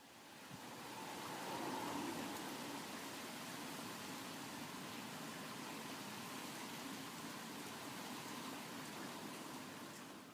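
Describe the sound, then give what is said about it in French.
Steady rain falls in a continuous, even hiss with a fine pattering texture, holding level for the whole stretch with no voices or other sounds breaking through. “Alors j'écoute la pluie.”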